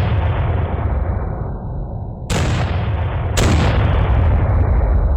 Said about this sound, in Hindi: लेकिन लगता है पाकिस्तानियों को भारतीय हमले का आभास हो गया। उन्होंने अपने तोपखाने से भारी फायर करना शुरू किया।